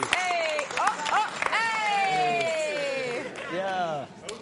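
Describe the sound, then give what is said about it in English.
A small audience claps and cheers, with sustained whoops and shouted voices riding over scattered applause for a few seconds. “See, give him a round of applause, guys.”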